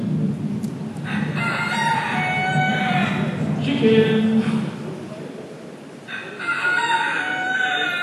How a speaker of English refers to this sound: Chickens!